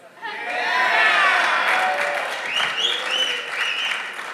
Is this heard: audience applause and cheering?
yes